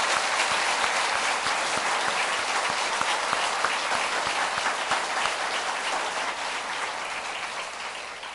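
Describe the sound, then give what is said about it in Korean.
A church audience claps together in thanks to visiting soul singers, a sustained, dense burst of applause with sharp overlapping hand claps, steady in loudness and tapering slightly toward the end, with no voices. “저희 교회를 위해서 그 일정을 변경하시고 오늘 오셔서 이처럼 우리에게 귀한 영적 부흥을 맛보게 해주신 성정미식 그리고 또 소울싱어들 감사하는 마음으로 그리고 앞으로 이런 기회를 좀 더 자주 갖기 원하는 마음으로 우리 감사의 박수를 쳐드리겠습니다.”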